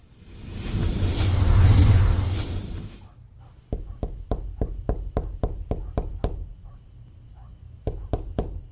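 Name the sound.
knocking on a door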